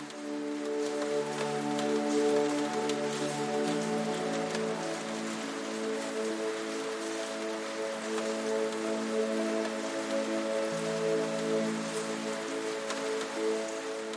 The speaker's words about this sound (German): Der Regen draußen wird zu einem fernen Rauschen und die Buchhandlung mit ihren warmen Lichtern und in unzähligen Geschichten verschwindet langsam aus deinem Bewusstsein.